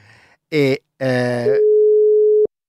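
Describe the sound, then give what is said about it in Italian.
A short burst of voice gives way to a single steady telephone ringing tone on an outgoing call placed live on air to reconnect with a guest, a loud, even beep lasting about a second before cutting off abruptly. “Vediamo, ci ricolleghiamo. Vediamo, sta squillando, tutto in diretta.”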